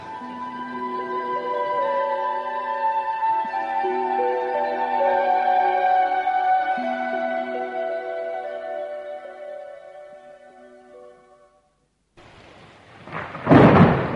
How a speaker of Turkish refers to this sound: Yağmur da bayağı hızlandı.